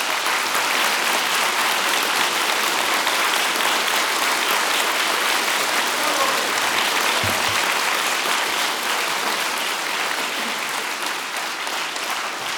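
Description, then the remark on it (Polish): Sustained, dense applause from a large audience at a live concert being recorded, steady and loud throughout with a continuous wash of many hands clapping at once, no voices standing out. “a koncert oczywiście i Państwa oklaski, to wszystko się nagrywa i być może jeszcze kiedyś użyjemy tego w radiu, także też proszę mieć to na uwadze.”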